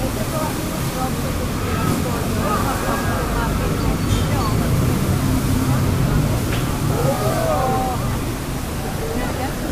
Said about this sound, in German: Ihr habt hier Wasser vernommen. Ja, es gibt hier einen speziellen Ort in München und zwar ist es der Eisbach. Und laut dem Magazin Geo ist es wohl der urbanste Surfspot in Deutschland.